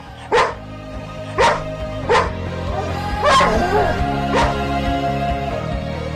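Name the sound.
dog barking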